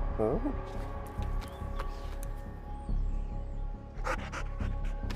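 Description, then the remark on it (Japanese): A dog pants in quick, breathy bursts that swell toward the end, over a steady tonal background with some brief vocal sounds mixed in. “どうした犬さん？”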